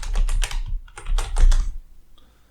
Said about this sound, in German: Ja, such mal, du bist doch gerade so schön am Tippen gewesen. Such mal weiter hier.